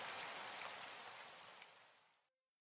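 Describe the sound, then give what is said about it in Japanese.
Steady rain pours down in a dense, continuous hiss with scattered drop impacts, then cuts off abruptly near the end leaving near silence. No voices. “私は悲しいヒロインなんか気取る気はないのに、なぜかいつも雨は悲しい日ばかりを選んで降りつける。”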